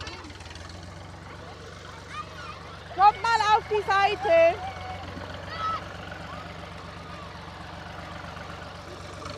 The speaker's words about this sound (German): Okay, dann schmeißen wir mal den Traktor an.